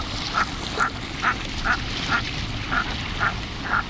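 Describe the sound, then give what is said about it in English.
Merganser duck calls: a steady series of eight short, croaking notes, evenly spaced about half a second apart, over a constant hiss of background noise. No one speaks. “Read the latest reports of the Intergovernmental Panel on Climate Change to see why those mergansers may not be coming south in the future.”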